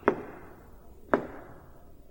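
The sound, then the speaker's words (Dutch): A shepherd's staff knocks against the rock walls of a dark valley in three sharp, hard taps spaced about a second apart, each followed by a brief ringing decay, with no voices. “Daar horen ze de stok van de herder die klopt tegen de rotswanden aan.”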